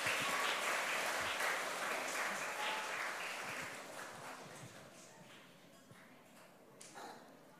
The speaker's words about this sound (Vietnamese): Các con hãy cho một tràng vỗ tay thật lớn để tán dương chung.